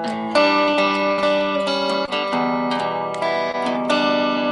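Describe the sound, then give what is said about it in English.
A clean electric guitar, played through just an amp with a little reverb, plays a simple riff alternating between E minor and A chords, each strum ringing out, fairly loud, with no voices. “So those two chords, it's immediately evocative, and that's just a super clean guitar sound with nothing more than the amp and a little bit of reverb.”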